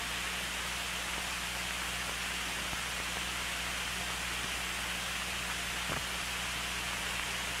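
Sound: heavy rain falling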